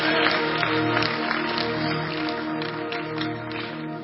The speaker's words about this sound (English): Clap for Jesus.